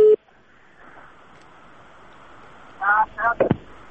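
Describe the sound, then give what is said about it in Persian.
A steady hiss of static on a phone line as a listener's call to a Radio Azadi call-in programme fails to connect, broken near the end by three short, loud bursts of electronic tones. “متاسفانه امروز مشکل هست در تلفن ها که درست تماس شنونده ها برقرار نمیشن.”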